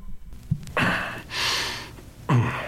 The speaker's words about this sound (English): But my favorite part, if you listen carefully, there's that slight little cough that the guy gives.